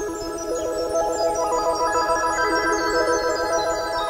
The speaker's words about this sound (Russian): Только стал глаза закрывать, бубенчик опять зазвонил. «А, наверное, по пустякам звонит», так подумал козел и закрыл глаза.